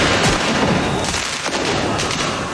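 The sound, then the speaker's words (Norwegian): A dense, chaotic barrage of fireworks and sharp bangs crackles and booms continuously in a Paris street, with repeated loud explosive bursts layered over a noisy crowd, as thousands of fans celebrate Paris Saint-Germain's first men's Champions League win with smoke bombs, fireworks and flares. “Med røykbomber, fyrverkeri og nødbluss, som startet branner der både biler og sykler ble totalskadet.”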